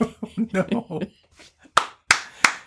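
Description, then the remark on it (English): A person talks briefly, then three sharp, evenly spaced hand claps ring out from people standing up to clap, slow and deliberate rather than full applause. “We're standing up and giving him the clap, by the way.”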